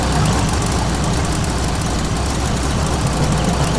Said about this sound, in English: And here is Gonk's car. You can hear in the background.